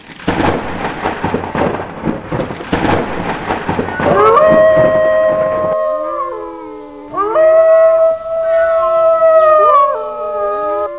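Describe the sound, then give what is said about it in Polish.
At midnight on a dark night, the rumbling roar of a powerful, hurricane-force wind gives way to long, eerie howls, wavering and layered in pitch, rising and sliding in two drawn-out bouts like mournful moans. “O północy obudziły go jakieś przeraźliwe wycia i jęki.”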